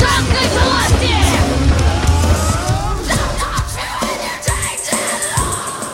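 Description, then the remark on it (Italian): About 20 people on a rooftop at Red Square in Moscow, in the snow, with a flag and guitars, shout and yell together, loudly, with overlapping voices rising and falling in a steady rowdy din throughout. “Sono 20 urlando, c'è una bandiere, chitarre.”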